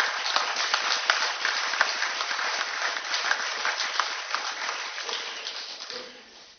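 A crowd applauds a person being thanked, dense overlapping claps at a fairly loud level, tapering off near the end as a few faint sounds remain.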